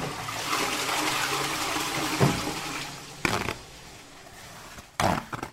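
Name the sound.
toilet flushing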